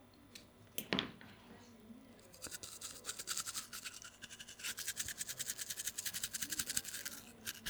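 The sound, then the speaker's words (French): A manual, non-electric toothbrush scrubbing, a rapid rhythmic bristly scratching that starts after a brief knock and grows steadily louder, with no talking. “Une brosse à dents, pas électrique.”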